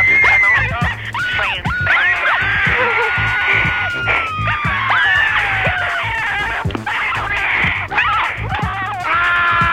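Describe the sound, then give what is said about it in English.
A chaotic burst of high, sliding screams and shrieks fills the whole stretch, loud, with several overlapping voices wailing and yelping over a noisy, clattering background; a caller screaming down the phone onto an answering machine. “But since I have rung you anyway, I might as well just add a little scream.”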